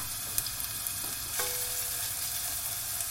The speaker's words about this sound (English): Right, so what I've got here is I've got the saucepan. I'm going to tip some olive oil in there. And I'm going to light that. Now I'm just going to pop the shallots in there. And the garlic.